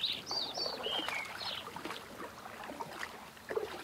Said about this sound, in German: Und oben im Himmel kannst du die Vögel singen hören. Und ihre Lieder wandern in dein Herz mit noch mehr heilender Wärme.